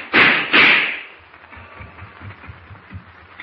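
Two loud, sharp gunshots, fired by Deutsch at the fleeing Clark Kent aboard a plane, go off in quick succession, about half a second apart, then ring out into a fading echo over a low, rumbling background.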